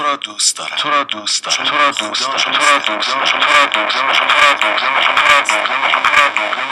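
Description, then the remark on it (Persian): A voice smeared by runaway echo delay feedback, with the echo set above 100% and about 70% feedback under it, its repeats piling into a dense, loud wash of overlapping voice layers that never decays during the whole stretch. “ببینید وقتی پلی میکنم چه اتفاقی میافته، در واقع 70% فیدبک میذاره زیرش و این باعث میشه که صدا اوت شه.”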